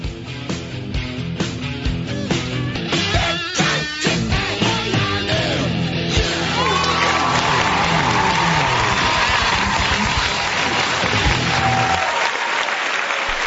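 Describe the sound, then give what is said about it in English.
A steady round of applause, dense and loud, runs for over ten seconds alongside a musical backing with a driving beat at the opening of the 2A Radio show with Bill Carnes, then thins out and fades near the end. No one speaks. “Thank you for that round of applause.”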